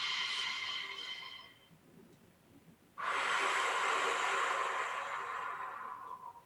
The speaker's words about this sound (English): So three deep breaths. First breath, just pay attention to your breathing.